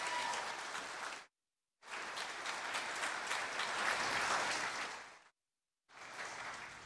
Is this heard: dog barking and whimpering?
no